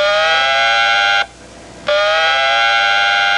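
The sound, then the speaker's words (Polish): A loud, piercing electronic buzz with a dense stack of harmonics from a handheld device carried around the corners of an office. The signal rose in frequency before it buzzed. It sounds steadily, cuts out for about half a second, then resumes just as loud. No one speaks. “Na koniec urządzenie głośno zabuczało.”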